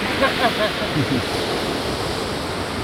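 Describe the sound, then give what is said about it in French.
A steady, close roar of ocean surf washing continuously onto the shore beside a seawall with paving stones, with a couple of faint swells early on and what may be voices buried in the noise. “Voilà, le bruit des vagues ici.”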